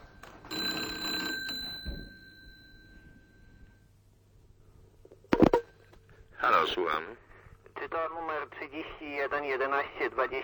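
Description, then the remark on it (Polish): Steady electronic telephone tones sound for about two seconds, then a sharp click, as Gdynia Radio connects the ship MS Karwia to the duty doctor for Radio Medical. After a pause, voices speak over a faint radio-line hum. “Odpowiada Gdynia Radio, łączę pana z dyżurnym lekarzem, chwileczkę.”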